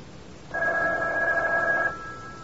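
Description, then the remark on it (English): A telephone rings once, a sustained electronic bell tone lasting about a second and a half, fairly loud against a quiet background. “Does it matter who's on the phone?”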